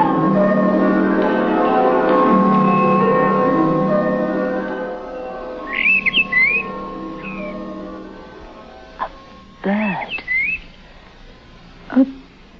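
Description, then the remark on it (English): A bird calls in short, high, warbling whistles, a few brief bursts spaced seconds apart, after a rich sustained droning tone fades away. No one speaks. “The bird didn't call again.”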